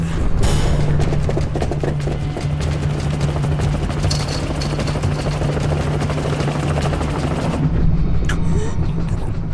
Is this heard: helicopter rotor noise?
yes